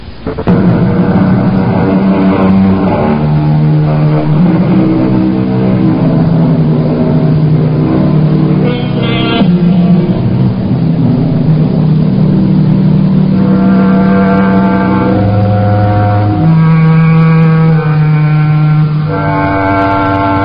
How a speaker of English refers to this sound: there's always a chance the thunder of the engine and the roar of the crowd